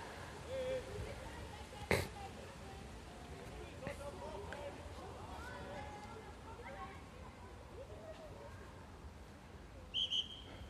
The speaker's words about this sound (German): So, jetzt gab es ein bisschen Konfusion, weil die Kinder nicht gehört haben, dass der Schiedsrichter da gepfiffen hat.